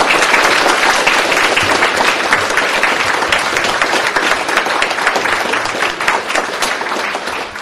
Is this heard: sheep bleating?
no